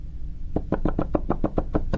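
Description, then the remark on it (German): Keys on the second manual of a pipe organ being played with no pipes sounding, to demonstrate the key noise before the first tone: a quick, steady series of about nine soft, dull wooden clicks and thumps, evenly spaced and with no musical tone, starting after a brief quiet moment. “Also ich spiele jetzt auf dem einen Manual, auf dem zweiten, einfach mal ein paar Töne, ohne dass eine Pfeife klingt, um mal zu demonstrieren, wie die Geräusche sind, bevor der erste Ton erklingt.”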